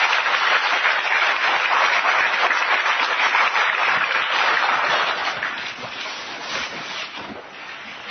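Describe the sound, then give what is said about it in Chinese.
An audience applauds steadily and loudly for several seconds to thank a teacher, a dense wash of many hands clapping that softens a little toward the end. No one speaks. “好，我们再一次掌声谢谢”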